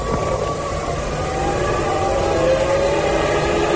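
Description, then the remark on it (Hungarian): Air horns blare in sustained, overlapping tones above a dense, steady roar of a large outdoor crowd of tens of thousands of German and Italian fans at a Formula 1 race circuit in Hungary during the last lap, the sound continuous and loud throughout with no speech. “És már szólnak a dudák, már szólnak a dudák.”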